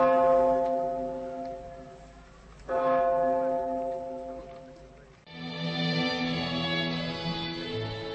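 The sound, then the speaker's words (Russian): A large bell tolls three slow, heavy strikes over the building of former School No. 1 in Beslan at 9:15 on 1 September, each one ringing out loudly and resonantly before fading into the next. No voices are heard. “В 9 часов 15 минут 1 сентября нынешнего года над зданием бывшей первой школы номер 1 в Беслане раздались удары колокола.”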